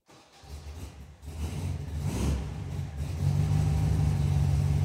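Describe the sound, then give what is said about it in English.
A vanilla and mint Volkswagen Beetle engine starts and revs, a low throaty rumble that climbs in loudness and then settles into a steady, louder drone. No one speaks. “I'd get in this car and go somewhere right now.”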